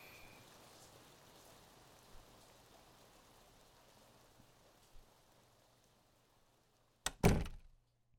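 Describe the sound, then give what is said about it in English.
Steady rain hisses outdoors while someone walks, with a low background rumble and a couple of soft thumps like footsteps, then a sudden loud door thud near the end before everything goes quiet. “It's just a short walk to my place, so you'll be all warm and out of the rain in no time.”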